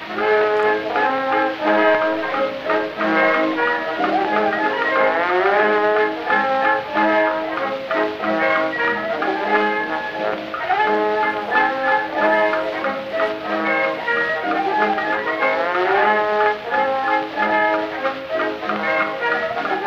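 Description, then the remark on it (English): An old band recording plays a lively, busy tune with layered horns moving in quick runs. It is steady and loud throughout, with a thin, muffled sound and no voices. “It may be a hoax, it may be a German band, it certainly sounds very pedestrian.”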